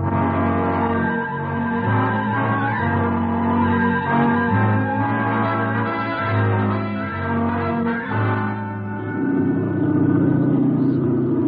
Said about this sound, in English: The plane began to slow down, and then it circled slowly.